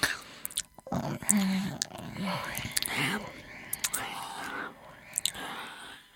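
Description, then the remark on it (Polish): Wet lip-smacking and chewing noises made by a voice imitating someone eating, with irregular sharp mouth clicks mixed with murmured, breathy vocal sounds, close and fairly quiet. “W tym czasie od strony smoka dało się słyszeć dziwne dźwięki przypominające mlaskanie.”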